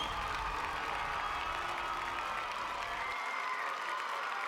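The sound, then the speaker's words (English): A large crowd applauds and cheers in a dense, steady roar of clapping that stays loud and even throughout, with no single voice standing out. “The crowd went wild, Kapoor went white, and Angel went galloping away.”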